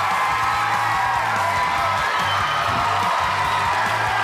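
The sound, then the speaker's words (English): A studio audience cheers steadily as David Reagan, driver of the number 6 UPS Ford Fusion, is welcomed onto the show, a dense wash of whoops and shouts mixed with applause that stays loud and even throughout with no pauses. “We got a good crowd here.”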